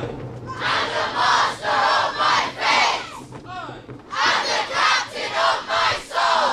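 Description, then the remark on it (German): A large group of schoolchildren in Wembley shouts in unison before lunch, chanting the Victorian poem Invictus by William Ernest Henley in rhythmic bursts of loud verse rising and falling in regular phrases, with a brief pause near the middle before the chorus resumes. “Vor dem Essen brüllen die Schüler im Chor das viktorianische Gedicht Invictus von William Ernest Henley.”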